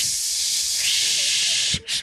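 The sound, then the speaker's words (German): A voice imitates air escaping from a car tire that burst when the car caught on something in a tight gap and the driver kept accelerating: a long, steady, sharp hiss lasting nearly two seconds, briefly cut off, then a short final burst of hiss. “Meine Tochter rennt hinterm Auto her, weil sie mir sagen wollte, dass der Reifen geplatzt ist.”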